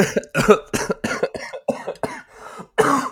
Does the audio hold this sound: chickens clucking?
no